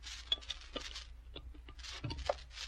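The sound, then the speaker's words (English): Ice cubes are dropped into glasses for Coca-Cola, clinking and rattling in a quick, irregular scatter of bright, glassy knocks and short crunchy bursts, fairly quiet, with no voices. “All right, get the glasses. Drop in the ice.”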